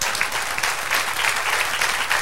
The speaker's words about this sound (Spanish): Dale aplauso al Señor.